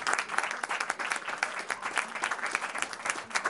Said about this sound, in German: Willkommen! Da ist der Applaus.